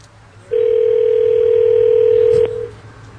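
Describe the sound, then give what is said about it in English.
A single steady ringback tone sounds on an outgoing phone call, holding one even, loud pitch for about two seconds before cutting off, with a faint low hum underneath. “It's been a sad ring.”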